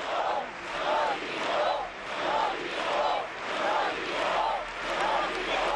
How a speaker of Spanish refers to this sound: Estamos escuchando esos gritos ahora mismo también.